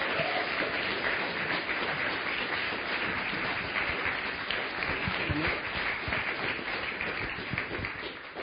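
An audience breaks into a steady round of applause for a guest coming up for an interview, dense overlapping claps at an even loudness for several seconds, easing slightly toward the end with no voices over it.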